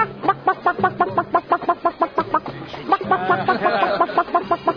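Rapid, continuous chicken clucking, close and fairly loud, with short throaty bursts tumbling one after another in a busy, uneven rhythm, as if several hens are chattering at once.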